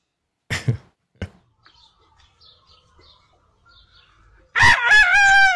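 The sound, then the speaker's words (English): A rooster crows loudly, a long harmonic cock-a-doodle-doo near the end, preceded by a few sharp knocks and faint, scattered chirps in a quiet setting. “you might very well be the rooster”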